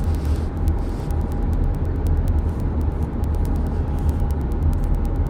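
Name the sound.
rush hour traffic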